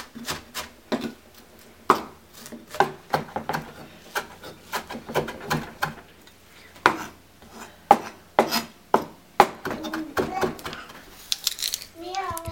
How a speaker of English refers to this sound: Begin by very finely chopping the onion, the parsley, and the cilantro. It should be very, very fine.